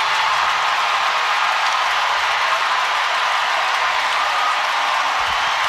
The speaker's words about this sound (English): Listen to the crowd at Chase! Janelle Solon, the rookie, coming up big here late. A huge three, and now a jumper from the left side on the inbound over the contest of Alyssa Thomas. She buries it.